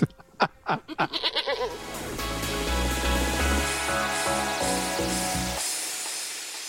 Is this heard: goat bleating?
yes